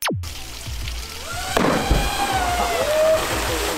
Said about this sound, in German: Das war ein richtig großer Platscher, den wir da gesehen haben.